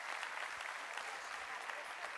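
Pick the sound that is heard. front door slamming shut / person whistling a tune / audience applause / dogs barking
audience applause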